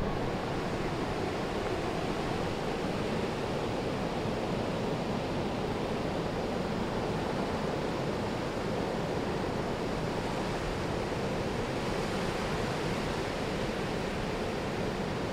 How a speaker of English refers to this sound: All right, if the wind can just please die down for a second, we might be able to hear the sound of the waves.